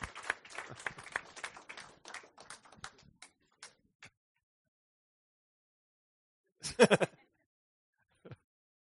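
Audience applause welcoming a speaker, with brisk, dense clapping that thins out and stops after about four seconds. A pause follows, then a short voiced exclamation and one faint final sound.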